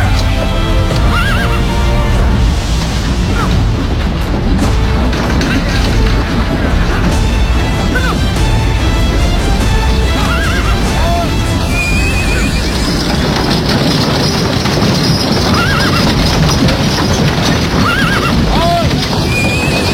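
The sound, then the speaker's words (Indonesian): Several horses neigh and whinny repeatedly over a dense, continuous rumble of hooves clip-clopping, loud, as a group mounts their horses and rides off to continue their journey. “Ayo cepat, naik ke atas kuda kalian masing-masing. Kita teruskan perjalanan.”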